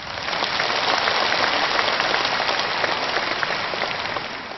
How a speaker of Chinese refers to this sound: 让我们全场和我们视听剧场的所有的佛友们以热烈的掌声再一次对他们表示感谢。